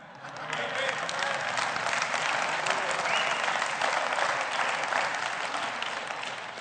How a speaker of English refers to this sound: Well, if you're going to clap, clap.